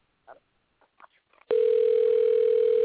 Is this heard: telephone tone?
yes